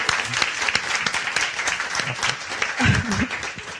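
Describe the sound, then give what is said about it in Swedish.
Steady, dense applause from an audience welcoming a comedian guest onto a panel show, a continuous wash of many hands clapping at even loudness, with a brief low voice or cheer rising through it near the end. “Gott folk, ge en varm applåd till”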